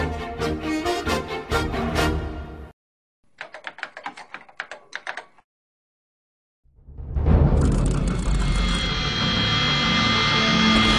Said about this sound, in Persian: وقتی هواپیمای بوئینگ 747 حامل امام خمینی در ساعت 9:30 دقیقه صبح روز 12 بهمن 1357 بر روی باند 11 فرودگاه مهرآباد به زمین نشست، هیچ کس فکر نمی کرد چه سرنوشتی برای مسافران این پرواز رقم خواهد خورد.